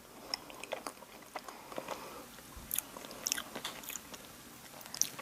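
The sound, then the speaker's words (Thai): Soft, moist chewing and small bites of chocolate cake, with quiet smacking and faint clicks, fairly gentle and irregular with no talking. “ลองฟังเสียงการรับประทานเค้กช็อกโกแลตค่ะ”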